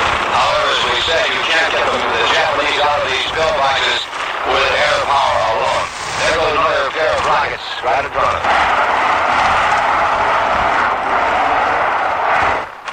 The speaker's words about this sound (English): roaring back and forth over that ridge. We see another plane going down on a straight runoff near the western side of the ridge